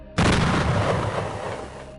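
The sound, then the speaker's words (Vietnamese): A single deep, rumbling boom erupts suddenly nearby, from the direction of Lạch Quèn, then rolls and slowly fades over about two seconds, echoing across open space, after the onshore sea wind has died down with the end of spring. No one speaks. “Gió nồm từ biển vào đã tắt theo cùng mùa xuân, nên âm thanh tiếng nổ nghe càng rõ hơn.”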